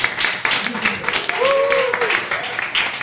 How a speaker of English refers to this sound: That's right, as the crowd goes crazy.